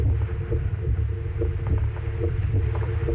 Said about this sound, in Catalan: Aquesta és la primera falca de ràdio, feta amb batecs reals, de persones que han superat una malaltia cardiovascular.